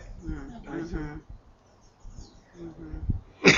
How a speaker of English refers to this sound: Sneeze through your nose. You want snot all over you? You won't get that germ out unless you're like... It's a medical thing.